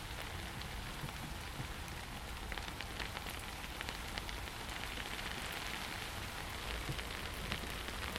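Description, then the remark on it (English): Steady rain patters on surfaces, a dense, even hiss with scattered individual drops ticking through it, continuous and moderately loud with no voices. “Yeah, it's raining.”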